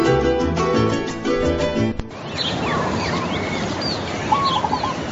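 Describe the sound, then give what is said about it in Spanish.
A short burst of melodic music cuts off, giving way to a lively morning chorus of birds on a ranch in the llanos plains: overlapping chirps, rising whistles and quick trills over a steady outdoor hum, no talking. “pues vamos a escuchar un poquito de lo que es o puede ser una mañana en una hacienda en los llanos.”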